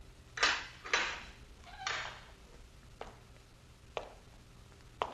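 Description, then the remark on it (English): A heavy prison cell door opens with a few harsh scraping clanks as a commandant goes in, leaving it ajar, followed by a handful of sharp, evenly spaced metallic clicks amid quiet. “A commandant arrives, stands for a moment outside the cell door, looks down his Castilian nose at the prisoner, then goes in, leaving the door ajar.”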